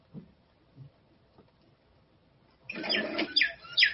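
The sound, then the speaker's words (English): After a few quiet seconds, a bird chirps suddenly: a short, fairly loud burst of bright, rapid tweets over a rustling, clattery background, with no talking. “When we say something pithy, the bird pops out.”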